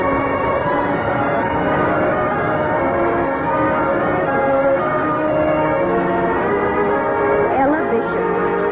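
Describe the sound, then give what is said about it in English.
A school bell in a brand new school building rings loudly and continuously for several seconds, its dense metallic tone filling the space, with a faint murmur of voices underneath. “I remember the excitement of hearing the school bell.”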